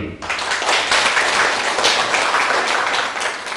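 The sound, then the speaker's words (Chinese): A crowd bursts into steady applause, a dense wash of many hands clapping that holds at an even, loud level for a few seconds without any talking. “那掌声放。”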